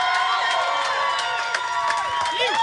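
A large crowd cheers and applauds continuously for a band that has just been introduced, with scattered whoops and shouts rising over the dense, steady roar of clapping throughout.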